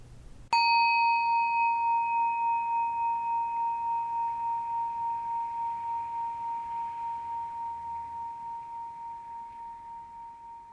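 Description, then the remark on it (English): A single bell is struck once, then rings out with a clear, pure tone that wavers gently and fades very slowly over about ten seconds, heard on its own without any voices. “Even though the sound of the bell and my voice are happening, let them be in the background.”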